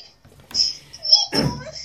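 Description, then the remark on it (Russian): A child cries in a few short, whimpering bursts, each lasting a moment, somewhat thin, with brief pauses between them. “Что случилось? Кто плачет?”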